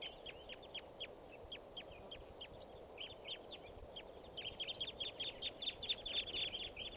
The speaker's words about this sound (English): Sound all like type 2 stuff. Here's another bird.